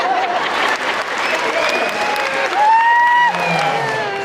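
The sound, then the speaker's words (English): A crowd at a stage performance during the Chimay dance celebration claps and cheers loudly and steadily throughout, with whoops and shouted voices rising above the dense, continuous applause. “His eyes get big, his head starts bobbing, and the crowd starts enjoying themselves.”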